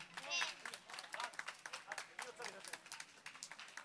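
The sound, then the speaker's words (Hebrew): An audience claps steadily for a few seconds, a dense patter of many hands, with some voices and a brief high cheer or whistle mixed in near the start. The applause is for the Jerusalem Municipality and Yan Productions at a sukkah event in Jerusalem. “אז קודם כל מגיע באמת לעיריית ירושלים שוב, ויאן הפקות מחיאות כפיים.”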